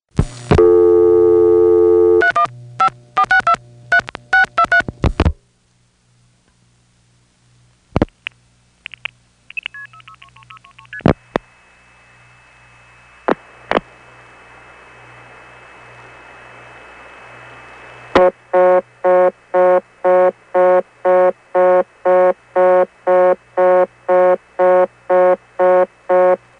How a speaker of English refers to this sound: I only called one tributary, Clifton Springs. I got a reorder tone which was so generic it's hard to tell now what it is. It's definitely not original tones of a 355 step, though. Possibly it's an independent step or a Stromberg XY.